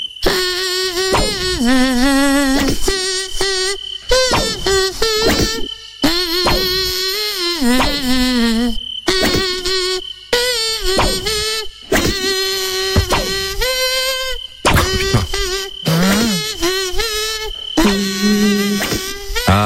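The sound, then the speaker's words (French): A loud, whining mosquito-like buzz hums a song melody, its pitch sliding up and down through short musical phrases separated by brief pauses, with no talking. “Nous, c'est les moustiques qui chantent le casou.”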